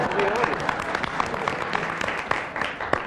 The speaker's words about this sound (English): I think we applaud the audience.